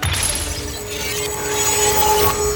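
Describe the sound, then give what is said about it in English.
A small green marble strikes the wooden planks of a jetty with a sharp crack, followed by a sustained, brittle crackling and ringing of emerald glass sprouting upward into a translucent wall, swelling and spreading for a couple of seconds. Loud, with no voices. “When the small sphere hit the wood planks of the jetty, a forest of emerald glass sprouted upward, creating a translucent wall.”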